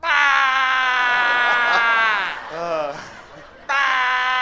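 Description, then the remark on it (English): An audience member at a show in Minnesota mimics a goat's bleat with loud, wavering, nasal vocal tones, dipping to a quieter quavering stretch before a second strong bleat cuts in at the end. “Like, there's a damn lost goat in there.”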